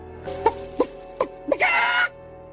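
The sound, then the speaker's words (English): A person imitates a clucking chicken: four short, evenly spaced clucks, then a longer, drawn-out squawking cackle that cuts off abruptly. “I'm gonna peck up your wall. Cluck, cluck.”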